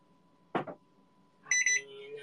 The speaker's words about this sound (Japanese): うるせえ！おい！電子レンジがよ、ピーピーわめいてんじゃねえよ、おめえは。